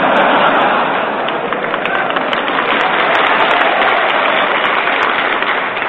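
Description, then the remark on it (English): An audience of Marines applauds steadily, a dense wash of many hands clapping at once that holds at the same loud level throughout, with no single claps standing out and no one speaking. “Only the winners applaud, you notice that?”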